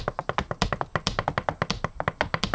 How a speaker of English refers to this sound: When you hear that knock, you know it's my brother coming home.